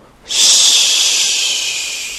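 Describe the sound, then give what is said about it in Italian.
A light wind sweeps in abruptly as a steady, airy hiss, holding for a couple of seconds and slowly easing off. No one speaks. “Un mormorio di un vento leggero che stormiva le foglie degli alberi.”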